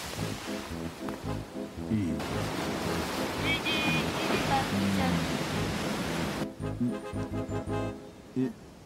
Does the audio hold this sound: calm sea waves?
yes